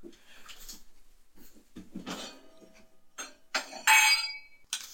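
Glassware clinks and rattles as a second wine glass is fetched and handled, with scattered light knocks building to a bright, ringing clink near the end, with no talking.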